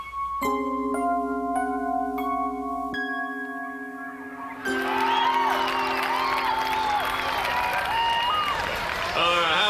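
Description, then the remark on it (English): A sustained musical chord plays for a few seconds, then a loud crowd breaks into steady applause and cheering, with whoops and whistles rising over the clapping, for members of Troop 711 after their reenactment of the Battle of Gettysburg. “Let's hear a big round of applause for the members of Troop 711 and their reenactment of the Battle of Gettysburg, folks.”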